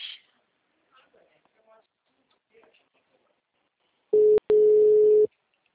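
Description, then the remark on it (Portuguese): After a few seconds of faint murmuring, a loud steady telephone line tone sounds for about a second, briefly interrupted by a click, as a call is routed to voicemail. “Encaminhada para a caixa postal.”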